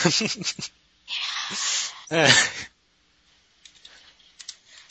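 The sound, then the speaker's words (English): Light, irregular tapping of computer keys as someone types out text, faint, with brief bursts of talking and a rush of breathy noise early on before the keystrokes continue quietly on their own. “I'm typing this because it took me a while to get, like, spell stuff correctly.”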